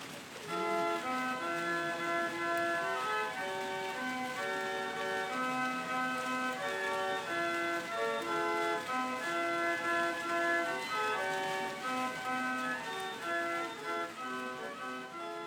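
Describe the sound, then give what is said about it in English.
A water organ plays a slow, steady run of sustained chords and shifting notes, sounding slightly uneven, over a constant hiss of rushing fountain water, with no voices. “The phrasing is a little bit lumpy and it's charmingly uneven, but it's very, very pleasing to hear, surrounded by all the sound of the fountains as well, of course.”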